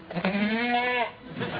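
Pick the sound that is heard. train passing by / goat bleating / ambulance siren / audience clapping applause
goat bleating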